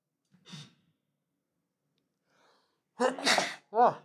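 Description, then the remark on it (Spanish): A loud sneeze bursts out after a short quiet wind-up of sharp breaths, followed by a brief voiced exhale, all from one person. “ay, tengo que estornudar, disculpen.”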